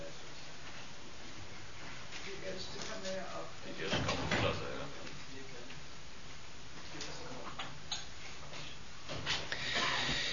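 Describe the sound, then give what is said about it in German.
A door shuts with a dull thump partway through, followed by a few fainter knocks and clicks, against a background of shuffling and low murmuring voices. “es zieht einigen Geschwistern, vielleicht könnten wir die Türen schließen.”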